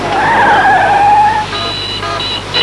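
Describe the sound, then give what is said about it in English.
Commissioner Gordon's car screeches in with loud squealing tires, a wavering high whine for about a second and a half, then shorter sharper squeals as it skids to a stop over engine noise. “Thank heavens, the Commissioner's car and some backup!”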